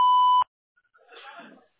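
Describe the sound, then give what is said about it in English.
A single loud, steady electronic beep from a phone call-screening prompt, lasting under half a second and cutting off abruptly, followed by silence and then a faint voice starting to speak. “To connect and talk, just say your name and what you're calling about after the beep.”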